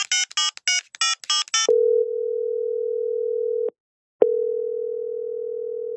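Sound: telephone call ringing tone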